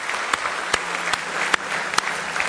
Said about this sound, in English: Give them a nice hand tonight, if you will.